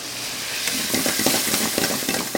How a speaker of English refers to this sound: tosses a handful of jalapenos in a screaming hot wok and mixes them into a chicken ginger stir fry. He's the owner and chef at Bowl of Flames, a Cambodian restaurant 30 miles east of Atlanta.